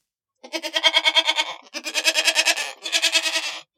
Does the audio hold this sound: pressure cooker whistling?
no